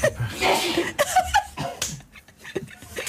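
A loud, sharp sneeze bursts out over a short musical jingle, followed by a couple of briefer noisy bursts and some faint chuckling as the tune carries on.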